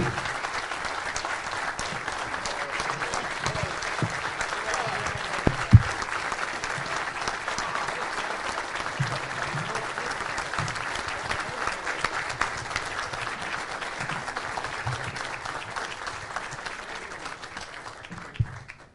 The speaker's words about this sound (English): Big round of applause